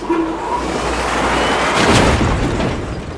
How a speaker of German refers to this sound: Wenn ein Autohersteller im Crashtest ein Auto gegen die Wand fährt